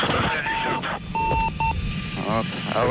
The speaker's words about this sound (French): Oui, le décollage du cosmodrome de Baïkonour s'est pourtant déroulé sans problème, mais environ 2 minutes plus tard, peu après la séparation du premier et du deuxième étage dans le Soyouz, une alarme retentit.